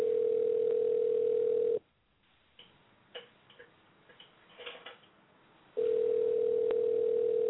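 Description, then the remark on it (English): A telephone ringback tone buzzes steadily for about two seconds, falls silent except for faint clicks for around four seconds, then buzzes again, with no one picking up. “So hopefully he's picking up. Okay. All right. So he's not answering.”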